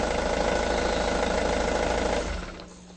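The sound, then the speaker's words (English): The engine of an airplane about to take off, with Victor Laszlo aboard, runs in a steady, loud mechanical drone with a rapid pulsing texture, holding constant for about two seconds before dropping away and fading out near the end. “Soon as the plane takes off, Louis.”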